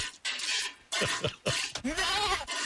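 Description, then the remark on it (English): A person mimics a goat, letting out a few short, loud bleats and then a longer, quavering one, with a hissy, breathy background throughout. “Oh, it's a goat. We're making goats.”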